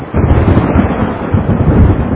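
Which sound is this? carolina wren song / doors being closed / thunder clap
thunder clap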